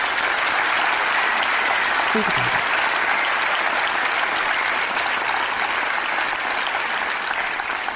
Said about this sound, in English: Applause.